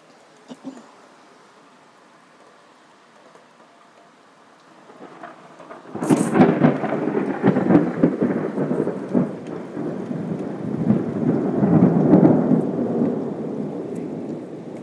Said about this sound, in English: Oh my, I was wrong. It's thundering alright.